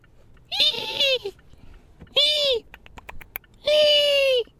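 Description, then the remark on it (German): A voice makes three high, squeaky, warbling cries in a row, each about half a second long with brief pauses between, imitating a baby dinosaur's chirping screech. “Ein Dinosaurier, Baby.”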